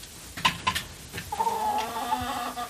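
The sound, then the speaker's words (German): A hen, about to be let out, clucks: a few short clipped notes followed by a longer, drawn-out complaining cackle with a wavering tone, fairly loud with no one speaking. “Weil sie hat sich so viel beschwert. Ja, jetzt kann sie gar nicht mehr aufhören.”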